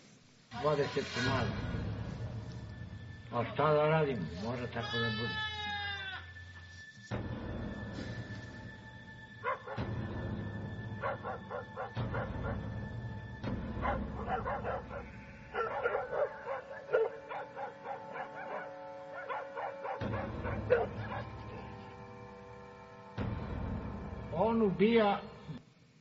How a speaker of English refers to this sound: Wolf attacks are very vicious. I've got a short video here, just 30 seconds or so, that shows a little bit of a wolf attacking some sheep.